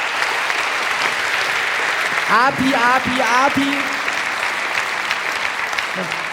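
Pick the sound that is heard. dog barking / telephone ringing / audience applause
audience applause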